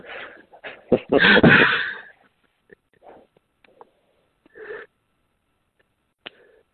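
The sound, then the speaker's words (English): Loud, heavy breathing right up against a microphone, a big harsh rush of air early on followed by a few softer, uneven breaths and small clicks with gaps of near silence. “Heavy breathing.”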